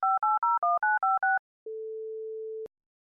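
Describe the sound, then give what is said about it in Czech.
Seven quick touch-tone beeps of a telephone being dialed in rapid succession, followed by a steady, clear telephone tone lasting about a second, with no voices. “Zkusme si to připomenout takovým fiktivním telefonátem.”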